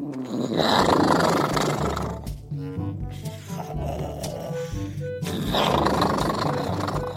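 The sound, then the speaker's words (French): Elliot, a dinosaur asleep in a bag, snoring very loudly: two long, harsh, rumbling roars, the first breath in and out, then a lower, throaty grumbling stretch before another loud, noisy snore. “Et je ne sais pas si vous avez déjà entendu un dinosaure qui ronfle, mais disons qu'il ronfle fort, très, très fort.”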